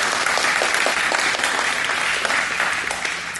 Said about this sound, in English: Let's give him a little hand clap as he comes forward.